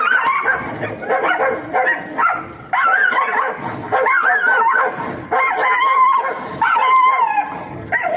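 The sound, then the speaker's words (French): Several dogs yap and bark nonstop, their shrill, overlapping yips and whiny cries crowding together in a loud, chaotic chorus. “Hier soir, j'avais choisir des chiens en train de japper ou un combat de coq, mais disons que c'est vraiment, écoutez, c'était hallucinant.”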